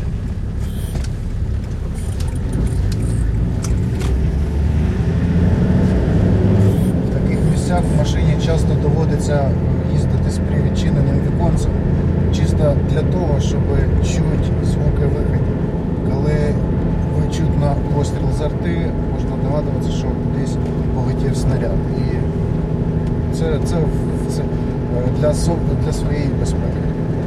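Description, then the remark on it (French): Steady low road rumble and wind buffeting from a moving car with an open window, driven through one of the most heavily bombarded zones of the city of Kherson, loud and continuous throughout, with voices talking over the noise. “Dans de tels endroits, il faut souvent conduire la voiture avec la fenêtre ouverte, juste pour que lorsque vous entendez un coup de feu de l'artillerie, vous puissiez deviner qu'un projectile a volé quelque part.”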